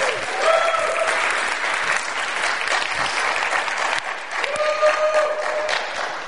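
Sustained audience applause for the evening's speaker, a dense steady wash of many hands clapping at fairly even loudness for several seconds, with a few faint whoops or cheers rising through it.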